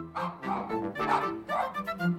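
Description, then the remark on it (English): A person imitates a dog barking, voicing several quick bow-wow barks in a steady rhythm, clear with no other sounds around. “"Bow-wow! Bow-wow!" said a dog.”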